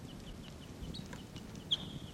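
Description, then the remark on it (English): A couple or so wild birds by a tree in a park give several faint, short, high chips, sounding like type 6 calls, repeating over a low rumbling background, with one louder, sharper call near the end that trails off briefly. “a couple or so of the wild birds are calling. And they sound like type 6s.”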